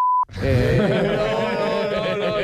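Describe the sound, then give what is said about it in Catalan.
A short, steady censor bleep tone sounds at the very start, then cuts off abruptly as loud, dense music-like sound swells in and fills the rest. “Ojo pip. Ojo pip.”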